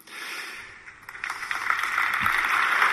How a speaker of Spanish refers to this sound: Con ese aplauso que nacía desde las naves de la catedral, ¿verdad?